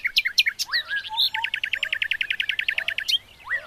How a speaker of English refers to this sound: Little Bird's tone was brighter, his phrasing clearer and stronger than all the other birds. The song elevated and rose up to the clouds with Little Bird's voice in the lead.